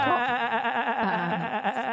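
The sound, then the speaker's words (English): A person imitates a sheep's bleat with a sustained, wavering nasal "baa" that lasts about two seconds, loud, with a trembling vibrato throughout. “That was a sheep I give noise.”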